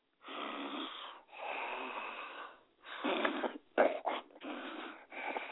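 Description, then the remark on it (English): A voice imitates people asleep in a car snoring: two long, raspy inhaled snores followed by a quicker run of choppy, snorting breaths, loud, with no talking. “It's funny when people get to the car or on that ride or whatever, they're all turn up, and now there's like everybody's in the car asleep, snoring.”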